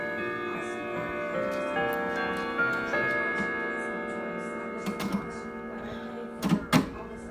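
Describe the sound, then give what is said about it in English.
A pendulum clock, with Westminster, St Michael's and Whittington chime settings and its pendulum being set swinging, ticks faintly beneath the lingering, steady hum of ringing chime tones, with a few louder knocking clicks toward the end. No one speaks. “And I've got to set the pendulum swinging.”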